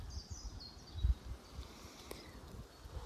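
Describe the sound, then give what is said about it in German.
Soft wind rustles through the treetops of the Tree Sisters trees on a slightly windy day: a steady hiss with low, gusty rumbles swelling around the middle, while faint bird chirps sound in the background. No one speaks. “Es geht jetzt hier ein Rauschen durch die Wipfel der Tree Sisters. Es ist ein bisschen windig und ich hoffe, du spürst das.”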